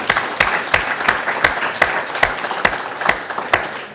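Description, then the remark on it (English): Steady audience applause at the close of a debate, thanking the panelists, fills the whole stretch, a dense crackle of many clapping hands with a few sharper, louder claps popping out at an uneven rhythm. No one speaks over it. “I think they've done an absolutely fantastic job, and I'd like to ask all of you to join me in thanking them with a round of applause.”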